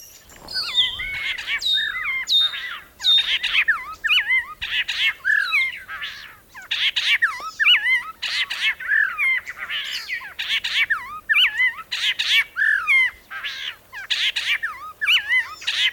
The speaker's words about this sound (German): hat einen Vogel nach ihr benannt, nämlich einen White-Edged Oriole. Das ist ein gelb-schwarzer, hübscher Vogel.